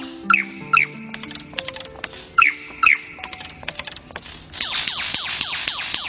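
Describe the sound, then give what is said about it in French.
A lyrebird runs through a medley of calls mimicking other bird species and other environmental sounds: sharp repeated chirps, whistled notes and clicks, then a sustained harsh, rattling chatter, loud with no voices. “Mais ce séducteur a aussi d'extraordinaires capacités d'imitation des vocalisations d'oiseaux d'autres espèces et de nombreuses autres sonorités de l'environnement.”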